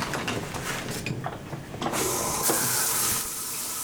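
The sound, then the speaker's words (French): A few clanks and rattles, then the shower of a prison cell bursts on halfway through, its steady hissing spray filling the space before easing slightly near the end. “Je jette un regard sur le seul luxe de notre cellule, la douche.”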